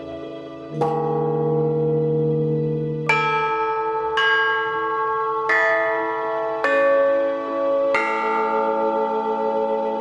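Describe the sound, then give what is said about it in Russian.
A metal bilo plate, an ancient instrument once used in place of a church bell, is struck in a temple about six times at uneven intervals. Each loud, clanging hit rings out with bright, bell-like overtones that overlap into a sustained shimmer. No voices are heard. “Тысячу лет назад в храмах ударяли не в привычные нам камбаны, а в била – металлические пластины.”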